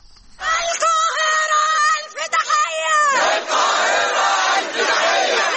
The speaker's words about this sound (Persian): فریاد حمایت از فلسطینی‌ها در قاهره.